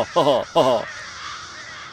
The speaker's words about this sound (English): And so the crows fly off to continue indulging in their uniquely crowish brand of fun. These majestic feathered beasts truly are among nature's most beautiful creatures.